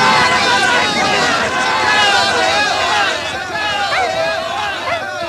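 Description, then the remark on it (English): Greyhounds hurtle out of the traps at a race, chasing a mechanical rabbit, as a small crowd murmurs and calls out, a dense, steady hubbub of excited voices that stays loud throughout and dips only slightly near the end. “A small crowd watches as the dogs hurtle out of the traps.”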